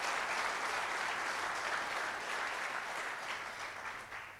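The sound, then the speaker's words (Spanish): An audience applauding God steadily, a dense wash of many hands clapping that holds strong throughout and eases off slightly at the very end, with no voices over it. “¿Cuánto lo aplauden a Dios por esa linda noticia?”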